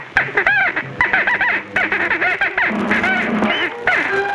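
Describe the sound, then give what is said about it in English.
A tick bird squawks loudly, letting out a rapid, continuous string of harsh, honking calls that overlap one another, with no talking. “The rhino, for instance, has weak eyesight, but carries the ever-alert tick bird.”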